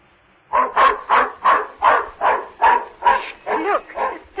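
A dog barks rapidly and repeatedly, about ten or eleven sharp barks in an even rhythm, fairly loud, as it runs off after a cat down a block and around the corner, with no one talking over them.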